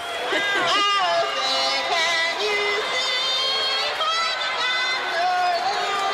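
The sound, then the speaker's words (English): A large crowd boos Roseanne's off-key singing of the national anthem, with sustained, drawn-out vocal tones that swell and waver for several seconds, loud and steady throughout. “So the crowd starts booing.”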